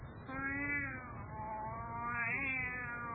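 A white tomcat in the lower boughs of an ash tree gives a long, drawn-out meow lasting a few seconds, fairly loud, its pitch rising and wavering with a slightly yowling quality, and no talking over it.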